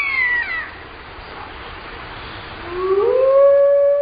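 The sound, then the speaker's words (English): A pack of wolves in Siberia howls together in long, wavering tones: a falling howl fades early, then a rising, sustained howl swells louder near the end, with a faint quality and no talking. “Howling, the wolf call to arms, gathers the pack and warns other wolves to back off.”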